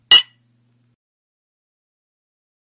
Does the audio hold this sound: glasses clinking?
yes